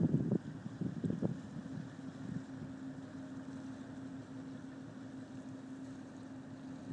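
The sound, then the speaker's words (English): A huge boat right in front of the speaker: its engine drones steadily with a low hum while wind rushes across the microphone; a few soft knocks sound in the first second, then the rumble continues evenly. “It's a big, huge boat.”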